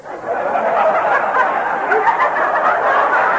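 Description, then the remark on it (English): A chicken in a bed clucks busily and continuously, fairly loud, a dense chatter of squawks with no voices present. “No, I mean the chicken in my bed.”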